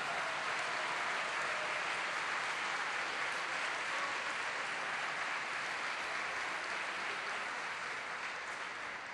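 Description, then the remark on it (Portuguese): Steady, dense audience applause lasting the whole stretch, welcoming the comrades from the Dominican Republic, a continuous wash of many hands clapping at an even loudness with no voices over it. “Los compañeros de la República Dominicana. Aplausos.”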